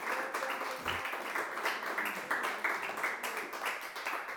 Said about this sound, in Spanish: Dale palmas fuertes porque Él vive para siempre.